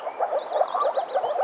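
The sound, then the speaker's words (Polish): A chorus of blue moor frogs croaking in a small pond, dense overlapping pulsing calls filling the whole stretch at steady moderate volume, with no one speaking. “Dowiadujemy się, że to żaby moczarowe.”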